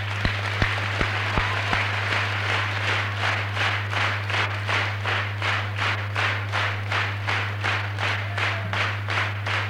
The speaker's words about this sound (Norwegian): Ingen protesterer på at den blir klappet. Vi klapper den ordentlig igjennom.